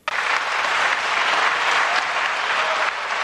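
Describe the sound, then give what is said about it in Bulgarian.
Sustained applause from We Continue the Change, BSP and Democratic Bulgaria members in the Bulgarian National Assembly as Kiril Petkov says farewell from the rostrum, a dense, steady wash of clapping that holds at an even loudness for about three seconds, with no voices standing out. “На фона на аплодисментите на падналите от власт промяната БСП и ДБ, Кирил Петков, като един харвардски революционер, сякаш излъчваше към цял народ и към татко”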